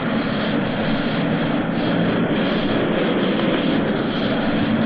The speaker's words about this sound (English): The only jet that will carry a reporter as well as the pilot is a T-33. The correspondent sort of hunches up piggyback behind the pilot. Here they are taking off. We're heading down the runway now. The jet is underway.